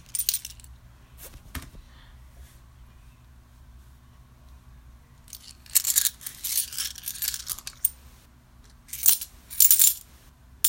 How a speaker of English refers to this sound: Play with your coins. You might need to do, like, multiple layers of that.